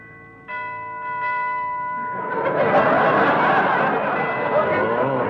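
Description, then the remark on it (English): A doorbell chimes with two clear ringing tones, then crowd laughter and murmuring voices swell up and continue loudly over the rest. “I'll ring the bell.”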